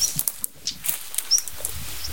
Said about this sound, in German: Ja, das war nicht tipp, tick, mit diesem Klacken hinten dran. Das ist natürlich Schwarzkehlchen. Aber dahinter sind Nachtigallen. Ich schwöre.